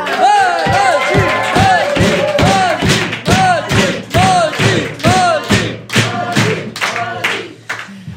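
A loud audience claps in a steady rhythmic beat, with whoops and cheers rising over the applause, before it eases off slightly near the end.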